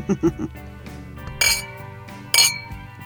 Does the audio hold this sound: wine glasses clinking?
yes